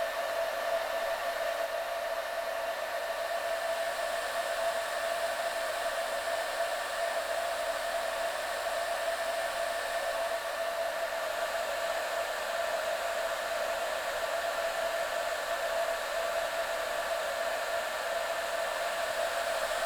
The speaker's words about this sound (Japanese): このまま軽くドライヤーしていきますね。